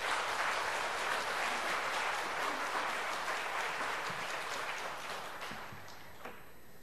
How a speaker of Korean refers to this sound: 그곳에서 모든 말씀들 이제 선교사님 통해서 듣기를 바라고, 우리 나오실 때 박수를 한번 환영하도록 하겠습니다.